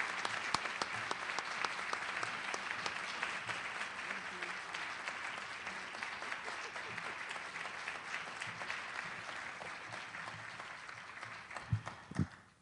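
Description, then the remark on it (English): Sustained applause from a sizable audience, a dense steady patter of many hands clapping that continues without a break before tapering near the end. “Thank you so much for that warm applause and for the very generous introduction.”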